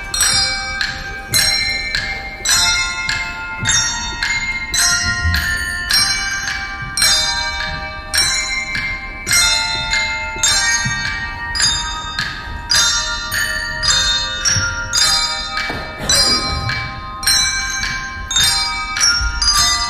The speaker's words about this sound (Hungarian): Végezetül pedig hallgassunk meg egy részletet a vizsai csengettyűs gyerekek előadásából.